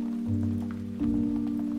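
Steady rain patters in a soft, continuous hiss with scattered droplet ticks, sitting beneath a loud, sustained low droning tone that swells slightly about halfway through. No one speaks.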